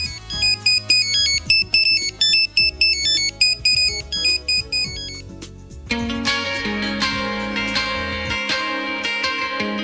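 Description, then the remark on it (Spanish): A Nokia mobile phone ringtone plays a bright, beeping electronic melody in quick rhythmic notes for about six seconds, loud, before a full band song abruptly takes over. “el Nokia, el mismo, el de Alexander Graham Bell, y el que usted tiene a esta hora de la noche por ahí cerquita”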